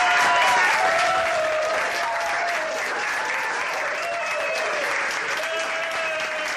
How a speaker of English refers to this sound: When they learned of the court's decision to strike down the Federal Defense of Marriage Act, along with sending California's Prop 8 same-sex marriage ban back to the jurisdiction of the court that overturned it, they erupted in applause.